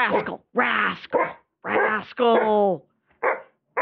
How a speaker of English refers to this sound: Rascal! No! No barking!